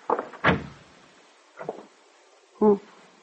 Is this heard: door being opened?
yes